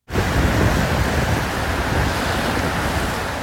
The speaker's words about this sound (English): The atmospheric river has not relented, and it's filling rivers and low-lying areas. Here's what the Cedar River sounded like rushing past the Renton Library today.